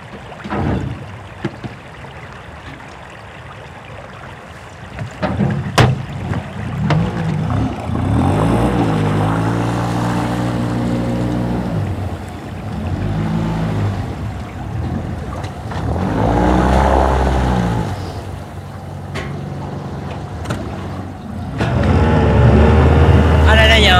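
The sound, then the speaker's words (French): A boat's outboard motor drones steadily, its engine pitch rising and falling as it runs, with people talking over the continuous mechanical hum. “Ah, on va tomber en panne de moteur ?”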